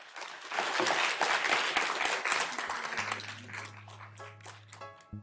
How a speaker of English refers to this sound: Thank you very much indeed. Shouldn't we give a warm round of applause to the panel?